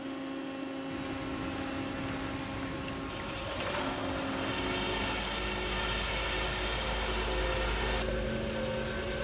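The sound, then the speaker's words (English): A rock drill runs continuously, boring holes for dynamite in kimberlite in a diamond mine, in the drilling cabin 100 meters down a 110-meter shaft. A loud steady mechanical roar layered with humming tones that shift in pitch and grow heavier partway through. No one speaks. “We're drilling holes in the kimberlite.”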